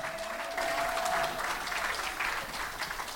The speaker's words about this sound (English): You can do better than that. More applause. Let's go. Let's go.